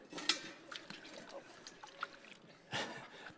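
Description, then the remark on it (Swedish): Water sloshes and splashes in irregular bursts, with a louder splash near the start and another toward the end, as a person's foot is washed in a basin of water. “Jag skulle kanske tagit lite varmare vatten.”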